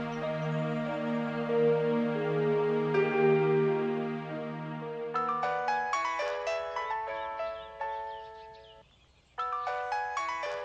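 A melodic phone ringtone plays alone, starting with sustained tones and then shifting into a quick, repeating pattern of bright chiming notes, loud, with a brief pause before resuming.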